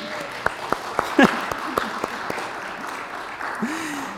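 An audience applauds for several seconds: a steady wash of many hands clapping, with sharper individual claps standing out and a brief cheer or whoop rising above it.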